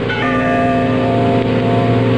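bell ringing

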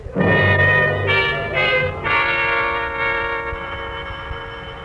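doorbell ringing

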